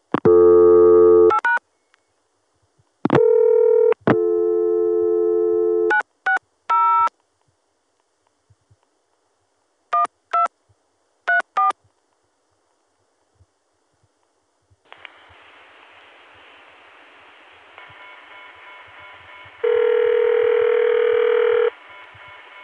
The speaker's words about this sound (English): Here's 960 being dialed at a time when the Atlanta to Chicago connection was available, and so we stayed within the ContelNet, going directly to the PBX, which has a modern ring.